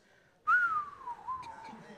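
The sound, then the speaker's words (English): A person whistles a single long descending tone, sliding from high pitch downward over about a second and a half like a falling bomb, loud with no talking. “Not the whistle. Yeah, that's what you hear before the bomb drops.”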